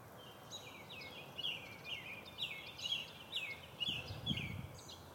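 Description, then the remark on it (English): Birds sing in the tree overhead on a Friday morning in late May, in a steady, repeating series of bright chirping phrases, one after another, over a low outdoor background hum with a brief rumble near the end. “Birds are right in the tree above me. That should be nice and clear for you today. As we do our morning bird songs.”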